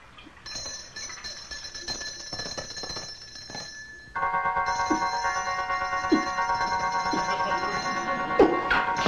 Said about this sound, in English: Get ready to kill Agent Roberts when you hear the bell. A bell? Oh, he has been conditioned to kill when he hears this bell.